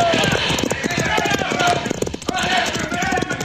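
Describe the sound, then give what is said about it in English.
Horse hooves gallop in a fast, steady rhythm, loud, pounding on without pause for the whole stretch, as riders flee from bandits, with voices mixed in beneath the hoofbeats. “Now, Pancho, run for your horse.”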